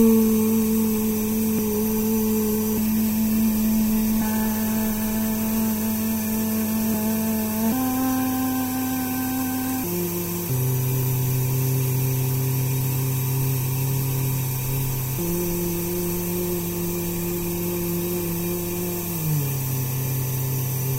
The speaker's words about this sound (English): I chose to deal with the difficult sound of my bathroom fan by inventing two kinds of sonic wallpaper. In one experiment, I devised a score intended to encourage me to sing or find the various pitches within the droning sound.